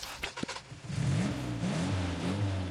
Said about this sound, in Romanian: Bun, acum o să pornesc mașina, o să dau cartea start.